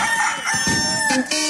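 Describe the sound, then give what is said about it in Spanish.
A loud rooster crow rings out in one long, strained cock-a-doodle-doo with a harsh, harmonic tone, rising and wavering before breaking off, with no talking over it. It is heard on Radio Activa's year-end special. “Este es el especial de fin de año con el Gallo de Radio Activa.”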